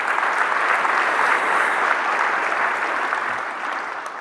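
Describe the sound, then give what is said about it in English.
A church audience claps for Jesus together in a dense, steady burst of applause that stays loud for about four seconds before tapering slightly at the end, with no voices standing out. “Give a hand clap to Jesus.”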